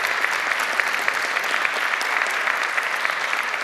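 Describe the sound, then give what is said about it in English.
An audience applauds a speaker after a talk, a dense wash of overlapping hand claps holding a constant, fairly loud level for a few seconds with no speech over it. “First thing would be thank you very much for your talk. And big applause.”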